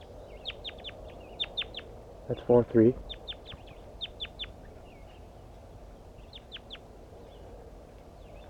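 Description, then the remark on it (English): Soft, high-pitched communication calls of a pair of birds come in quick little clusters of chirps throughout, quiet, with a person briefly speaking partway through. “Start recording soft communication calls of the birds.”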